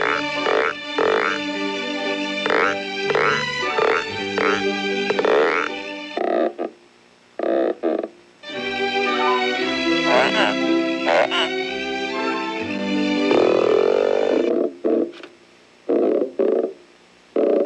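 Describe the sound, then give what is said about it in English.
Voices imitate frogs for Disney's True Life Adventures, croaking and warbling the operatic Sextet from Lucia in ensemble, with strong harmonic stacks and pulsing croaks, a brief pause midway, then more croaky singing ending in short choppy bursts. “I had to do something called Sextet from Lucia, which is one of the old, old classics, but the frogs had to creak it and croak it.”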